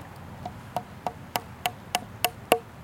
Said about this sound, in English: Oh my god, I can't aim this hammer for life of me. It's hard. It's right by a knot. Yeah. Yeah, that one went in much easier.